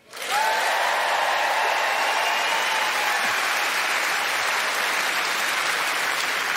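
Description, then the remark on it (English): A crowd, asked to applaud if they are Scottish, breaks into loud, sustained applause that swells quickly and holds steady for several seconds, a dense wash of clapping with no one speaking over it. “So just by way of applause, who is actually Scottish?”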